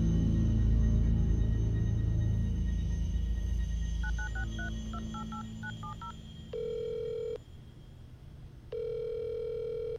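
telephone dialing tones

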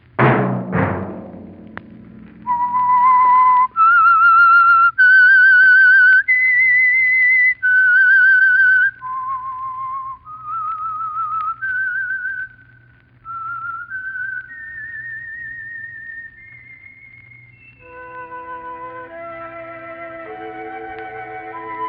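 whistled theme melody

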